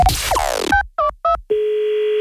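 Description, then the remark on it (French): A telephone line sound as a call is placed to a woman in the morning: a burst of descending tones, three short dialing beeps, then a steady continuous tone holding alone, clear. “On va tester le rythme d'une dame ce matin au téléphone.”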